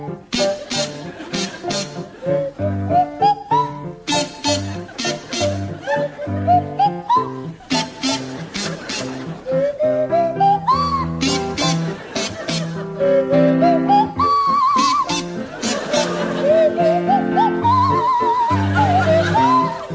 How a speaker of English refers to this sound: So, Tim and Jeremy, you can start, and I'd like you to provide us with a rendition of The Blue Danube to feature Jeremy Hardy on the kazoo and Tim Brooke Taylor on the Swanee whistle.